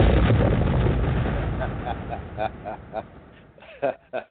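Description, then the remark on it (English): A loud, booming explosion opens with heavy low rumble that slowly fades over about two seconds, followed by a few brief, quieter voice-like bursts. “I haven't got an explosion in a few weeks, so I'm good now.”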